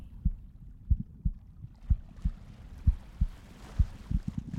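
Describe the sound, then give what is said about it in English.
A rapid heartbeat thumps in low, muffled pulses, roughly a dozen beats in quick succession and bunching tighter at the end, with a soft whooshing hiss rising behind them. “It's beating too fast.”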